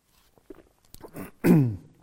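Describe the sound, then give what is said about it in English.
Someone with a dry throat takes a sip of water: a few soft wet clicks and slurping sounds, then a louder swallow followed by a short voiced exhale that falls in pitch. “Just going to get a wee drink of water because my throat's quite dry here”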